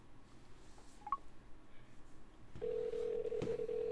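A couple of quick phone keypad beeps sound, followed by a steady, continuous call tone from a phone line that holds until the end, with no voices present.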